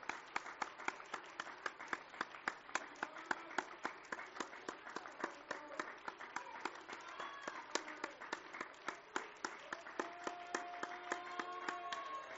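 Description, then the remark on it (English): An audience claps their hands in praise, a dense, steady run of sharp claps that keeps a lively rhythm for the whole stretch, with faint voices and tones murmuring underneath. “Well, what is a hand clap of praise? It's giving it all you got.”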